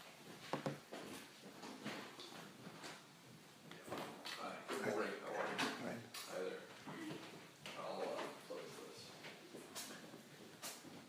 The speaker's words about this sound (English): Sorry, do you mind if I close the door?